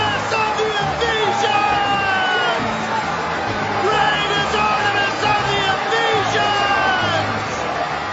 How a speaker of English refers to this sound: But when they realized he was a Jew, they all shouted in unison for about 2 hours.